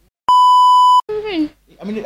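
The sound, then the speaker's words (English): A loud, steady censor bleep holds for under a second, then cuts off abruptly as voices start talking right after it. “I cut it down right as I said, give it, just beep, just gone.”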